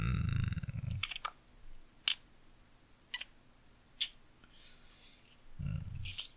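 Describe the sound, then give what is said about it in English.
Gnawing on a plastic pen while zoning out: a handful of sharp, crunchy clicks spaced roughly a second apart, with a low muffled rumble at the start and end. “You know, you do unspeakable things to pens when you zone out. Some kind of oral fixation?”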